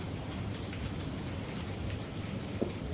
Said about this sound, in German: Es regnet immer noch.